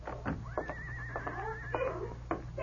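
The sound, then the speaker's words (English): A skittish horse hitched to a two-seated buggy in a street whinnies once in a long, quavering call lasting about a second, over a low steady hum, with a few short clatters before and after. “To his surprise, he saw a horse and two-seated buggy nearby.”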